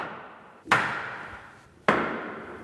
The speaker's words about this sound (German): Mit den Hammerschlägen von Stuhlmeister und Aufsehern beginnt das Freimaurerritual.